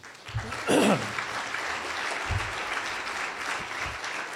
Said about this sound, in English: Didn't anticipate all the applause, so my timing might be a little off. But thank you. I appreciate it.